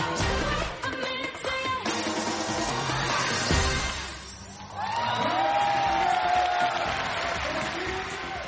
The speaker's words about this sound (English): And I noticed during the parade, they actually got the people to whoop it up. It's like we broke that barrier.